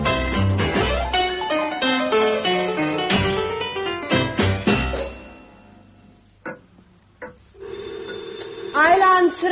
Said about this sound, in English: ringing at your own front door? You don't do that normal-like.